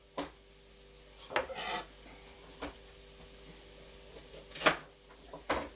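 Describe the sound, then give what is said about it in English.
A sharp peeler scrapes a vegetable in several short, irregular strokes, quiet, with brief clicks between them over a faint steady hum. No one speaks. “And then always scrape it away from you like that, okay?”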